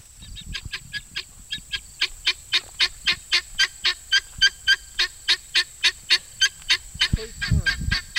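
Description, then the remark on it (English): A farmyard bird standing on top of a large covered bale of straw calls loudly and repeatedly in a fast, steady series of honking cries, with a faint rumble and a thump near the end. “I noticed one of the birds making a lot of noise on top of a large covered bale of straw.”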